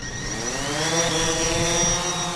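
A small drone whirs steadily at close range, its high-pitched motor whine holding a constant tone with layered rotor harmonics, loud and continuous with no voices.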